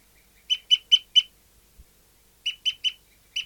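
A captive bird, recorded as bird 59, gives a series of short, sharp, high-pitched calls: four evenly spaced notes, a pause, then three more and the start of another, with nothing else audible.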